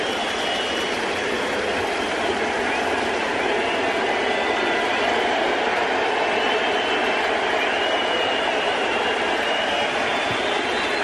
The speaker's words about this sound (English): And we'll let you listen as CeCe will come off the mound for the final time here in the regular season for the Yankees. 11 years of great work by Sabathia in pinstripes, and you'll listen to the crowd give him some love.